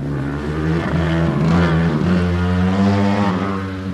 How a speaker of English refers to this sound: This afternoon, the cars are weaving between cones on a banked portion of the track.